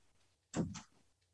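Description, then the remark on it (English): A bedroom door is swung shut by a man with one solid thud and a quick latching knock right after, otherwise quiet with no one talking. “He just shut my bedroom door.”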